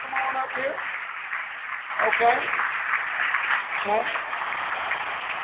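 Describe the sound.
Audience applause for a woman whose name was drawn and who is called up, a steady, dense patter of many hands clapping, with a voice briefly speaking over it a couple of times.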